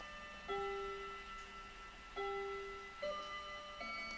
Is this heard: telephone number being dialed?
no